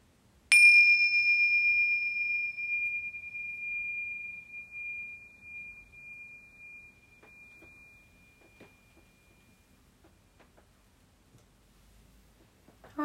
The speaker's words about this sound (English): And then just listening to the bells.